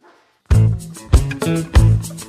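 A dog barks loudly, a short run of about four sharp barks in quick, uneven succession after a brief quiet moment.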